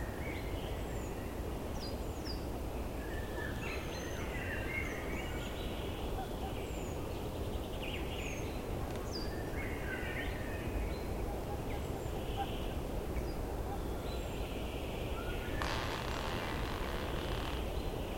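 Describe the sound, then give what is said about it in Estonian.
Wind rushes steadily through a spruce forest on a morning, a constant low roar, while small birds chirp and twitter in scattered, high-pitched calls above it. “Taustaks kõlab praegu helifail, mis on salvestatud tuulisel hommikul kuusikus.”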